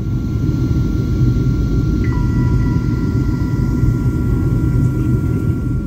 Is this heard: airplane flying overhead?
yes